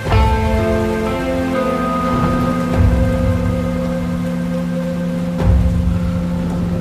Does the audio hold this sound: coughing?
no